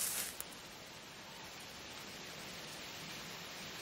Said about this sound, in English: It's very windy. You can see that up there, look at it. Very windy. So, yeah, listen. It's all moving and very, very windy.